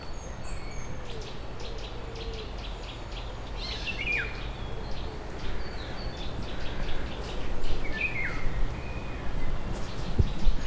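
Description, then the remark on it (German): A Eurasian golden oriole calls twice, a few seconds apart, in a forest, over a steady outdoor hum with thin high chirps from other birds scattered throughout. “Ah, das dürfte ein Birol sein. Ja, ein Birol.”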